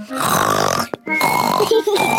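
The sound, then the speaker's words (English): A voice imitates someone snoring loudly while asleep, making rasping noises: two long throaty snorts separated by a brief pause, forceful. “Daddy says you always fall asleep and snore loudly, like this.”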